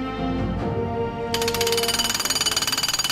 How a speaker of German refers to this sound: Ganz Katar ist derzeit eine einzige Baustelle. Überall arbeiten die Presslufthämmer und Betonmischer, um das Land WM-reif zu machen.